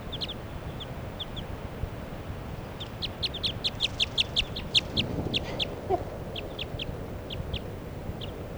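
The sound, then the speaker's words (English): A light-colored wild female bird, perched right next to a truck, calls in response to another bird in short, high-pitched chirps, scattered at first, then a quick run of notes, then spaced-out again, all over a steady low rumble with no talking. “And this other female is perched right next to the truck. And that's her calling.”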